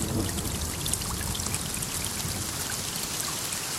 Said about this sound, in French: Averse d'été, la pluie bat sur la tête des carpes.